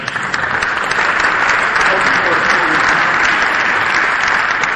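Sustained applause from an audience, given as thanks at an evening gathering: a dense, steady patter of many hands clapping at an even loudness for the whole stretch, with no pause or fade.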